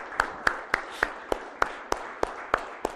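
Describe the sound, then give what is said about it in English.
Steady, rhythmic hand clapping, about ten sharp claps in three seconds at an even beat, by the men of a church audience clapping in unison for the women. No one speaks over it. “Gentlemen, give them a hand clap.”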